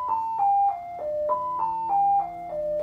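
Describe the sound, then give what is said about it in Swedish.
An emergency dispatch alarm plays a descending four-note tone pattern, sounded twice in a row, steady and fairly loud with no voices, going off during a crew's lunch for a priority 1 call. “Jag hinner ta några tuggor av min lasagne innan larmet går.”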